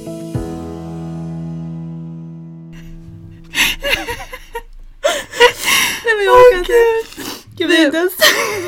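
A sustained musical tone fades out, then someone breaks into wavering, whimpering crying with gasping breaths, loud, in uneven bursts.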